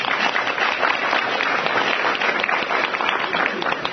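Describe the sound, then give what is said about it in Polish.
Sustained applause from an audience as a person is introduced and invited on stage: dense, steady clapping with no pauses, fairly loud and even throughout the four seconds, with no voices standing out. “Brawa.”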